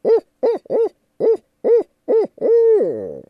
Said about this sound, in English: And they say their voice, sometimes when you take bird songs and convert them to human words, it's easier to remember them. And so we say, the barred owl says, "Who cooks for you? Who cooks for you all?"